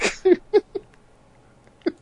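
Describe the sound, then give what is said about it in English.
A person blows a few short, buzzy mouth-made fart noises in quick succession, fairly loud, followed after a pause by one more brief sputter. “Oh, do they not do fart sounds with their mouths?”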